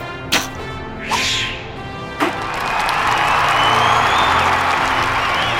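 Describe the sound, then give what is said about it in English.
An arrow shot first by Hubert, Prince John's best archer, in a tournament archery contest is loosed with a sharp snap and a brief swish, then strikes the center circle of the target with a crisp thwack, followed by a crowd breaking into sustained cheering and applause. “Hubert shoots his arrow first.”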